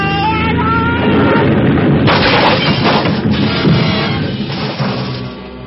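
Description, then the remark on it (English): An aircraft crash-landing: a loud droning engine whine gives way to a heavy booming crash, followed by sustained rumbling, rolling noise that slowly eases off. No one speaks. “For a long moment, there was nothing but a vague blackness all about me, and the sound of our crack-ups seemed to roll and echo almost dreamily back and forth in the deep recesses of my mind.”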